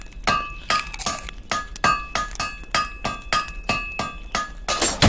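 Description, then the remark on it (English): A hammer strikes metal again and again in a steady rhythm, about ten ringing clangs, each with a bright metallic tone that lingers briefly. No one speaks. “You have steel match metal hammer. Oh, I don't need to choose the hammer because it's already in my right hand.”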